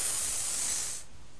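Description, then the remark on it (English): A person imitates a snake with a loud, steady hiss lasting about a second, then it cuts off into quiet. No words are spoken. “What makes that noise? Snake!”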